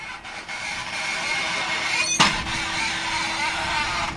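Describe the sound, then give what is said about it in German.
A steady mechanical drone as a steel cable pulls a power cable out of an underground tube at a Tennet construction site among the dunes on the North Sea island of Norderney, where power lines from offshore wind parks are laid to the mainland. Thin high squeals ride over it, with one sharp clank-like burst partway through. No voices. “Per Stahlseil wird hier gerade ein Kabel aus einer unterirdischen Röhre ans Tageslicht gezogen.”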